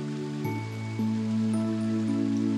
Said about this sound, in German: Vorsichtig gehst du auf die hohe Felswand zu und wirfst einen Blick hinter den Wasserfall.